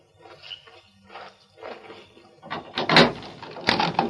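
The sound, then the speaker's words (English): The door of a town jail is opened: soft rattling and shuffling at first, then louder scraping and clunking bursts as it swings open, with no voices. “Open the door.”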